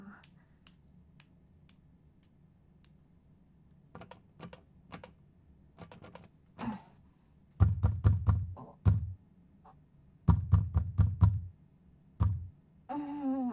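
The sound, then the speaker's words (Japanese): Someone tries a room's locked door: a few light clicks of the handle, then two loud bursts of rapid rattling and thumping as the door is yanked but won't open. “扉開かないかな。”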